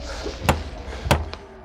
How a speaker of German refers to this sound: Über einen Feldweg gelangt er zum Schlosstor. Der Reiter steigt ab und klopft an.